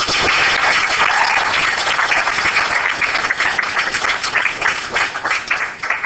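A crowd applauds loudly and steadily for about six seconds to welcome a cosmology professor as speaker at an event in Canada, a dense wash of many overlapping claps with no voices heard, tapering slightly toward the end.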